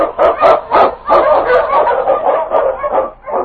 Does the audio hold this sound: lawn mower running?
no